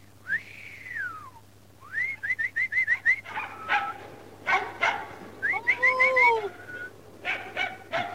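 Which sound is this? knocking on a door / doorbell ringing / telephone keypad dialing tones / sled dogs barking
sled dogs barking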